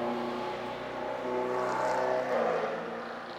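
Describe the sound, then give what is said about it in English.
A car drives past with a steady engine drone that swells slightly midway, then eases off. The sound is fairly loud, with no voices. “See, Satan's driving that car.”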